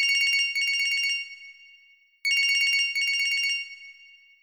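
An alarm clock rings loudly in two bursts of rapid, trilling bell strikes, each ringing about a second before fading, with a short pause between them.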